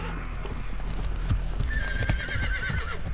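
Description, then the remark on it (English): The hooves of the eight-legged steed of Norse myth, son of Loki, clop steadily while the horse lets out a high, wavering neigh midway through, the whinny trailing off over the continuing hoofbeats. “This eight-legged steed crosses 8 points of the compass, from 8 directions into 8 dimensions.”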